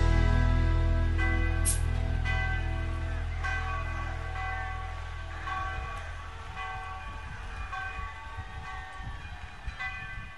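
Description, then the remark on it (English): Victory bells ring out in a loud, continuous peal, overlapping strikes blending into sustained, shimmering tones that hang in the air and ease slightly over the ten seconds, with no voices. “Those are the bells ringing out at Texas Tech after every victory.”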